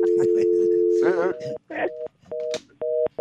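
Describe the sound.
A steady landline dial tone hums, then gives way to a series of clipped, repeating electronic beeps, fairly loud, with a brief voice murmuring over part of it.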